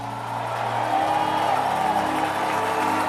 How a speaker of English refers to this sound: Please put your hands together. Is that all you're going to do? Come on, clap your hands, all ye people, and shout unto God with a voice of victory.